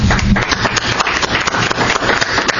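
An audience applauds, a dense, steady wash of many hands clapping at once that holds an even loudness for a few seconds without any voices.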